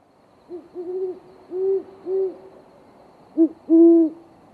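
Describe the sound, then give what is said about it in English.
Deep, soft hooting from two great horned owls calling back and forth to each other, a rhythmic series of low hoots in a short phrase, then a pause and two more longer hoots, clear against a quiet background with no talking. “The great horned owl is our hoot owl, and its voice is really, really low.”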